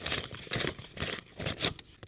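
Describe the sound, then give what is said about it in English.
Paper dollar bills rustle and crinkle in a series of short, crisp bursts, handled at a steady pace with no one speaking. “And then paper dollar bills like the ones we use today.”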